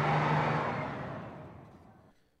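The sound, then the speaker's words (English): A bus engine rumbles loudly at first with a low droning hum, then steadily fades as the vehicle pulls away over a couple of seconds, with no one speaking. “And, you know, I've heard a bus in Luxembourg. They don't sound like that.”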